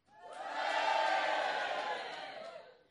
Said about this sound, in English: Orgiastically ecstatic scenes of cheering.